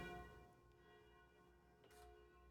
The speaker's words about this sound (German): Ja, das ist schön, weil es jetzt durch dieses Geläute der Glocken auch nochmal untermauert wird.